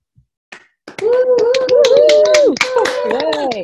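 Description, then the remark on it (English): A few scattered claps start things off, then a burst of irregular clapping rises alongside sustained cheering voices, loud, continuing steadily to the end, as an OA HOW meeting applauds members' abstinence. “All other OA abstinence is given a round of applause.”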